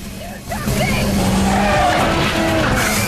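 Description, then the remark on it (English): In a Terminator film scene, the Terminator jerks the steering wheel of a hearse, swerving it side to side and clipping a passing car, tires skidding and squealing loudly over a steady engine roar and rumbling road noise, with brief squeal bursts throughout. “Jerking the steering wheel, the Terminator sways the vehicle from side to side, clipping a passing car as he does so.”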